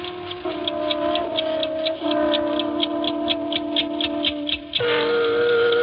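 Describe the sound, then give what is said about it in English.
An 8-day mechanical clock in an apartment living room ticks in a quick, steady rhythm, each tick crisp, over a sustained humming tone that shifts pitch a few times. “I had been away for 3 weeks, and my 8-day clock was running.”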